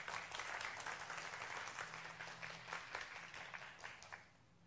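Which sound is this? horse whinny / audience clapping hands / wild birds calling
audience clapping hands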